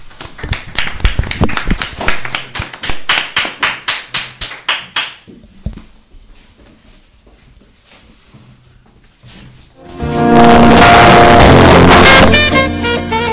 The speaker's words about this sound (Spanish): desde aquí os pido un aplauso para él. Muchas gracias.